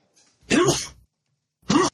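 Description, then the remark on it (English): Two abrupt, breathy sneezes, the first longer and fuller, the second short and clipped after a brief pause, with no talking around them. “Gesundheit.”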